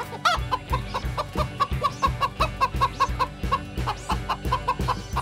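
A hen clucks in a quick, steady series of short calls, with a faint high chirping mixed in over a low rhythmic background.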